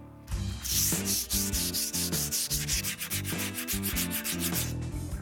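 Hand sanding on a metal stove: quick, steady back-and-forth rasping strokes, fairly loud, repeating for several seconds over a tonal musical background.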